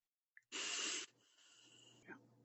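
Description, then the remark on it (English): One deep breath: a loud, airy inhale followed by a longer, softer exhale, with no talking. “So I'm going to ask you to breathe.”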